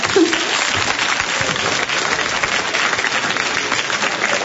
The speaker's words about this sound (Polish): Wielkie brawa!